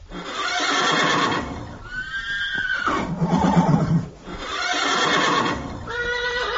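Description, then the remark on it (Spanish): A horse neighs and whinnies repeatedly and loudly, with shrill wavering calls and snorting breaths filling the whole stretch; no one speaks. “No dejes que un caballo te convenza. Un caballo mola.”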